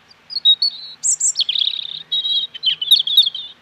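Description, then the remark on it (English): A European robin sings a clear, varied phrase of high warbling notes and thin trills, fairly loud, with brief pauses between bursts and no other sounds. “One of the great pleasures throughout the year is hearing robins, usually in my case, singing on lampposts.”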